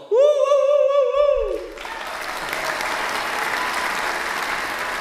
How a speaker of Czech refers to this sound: A nyní prosím potlesk pro ….